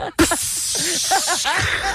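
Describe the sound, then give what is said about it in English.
A loud, sudden hiss of gas rushing out as a big 2-litre sparkling water bottle is opened, a steady spraying fizz for over a second before it drops to a softer bubbling, with voices in the background. “Sorry, it's fizzing everywhere.”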